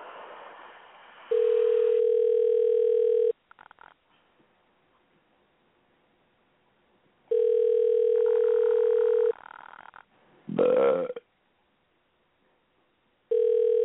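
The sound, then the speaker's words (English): A phone's ringback tone buzzes in steady two-second bursts separated by long pauses, ringing about three times, with a brief rough snort-like noise between the second and third rings. “Hey, it's ringing.”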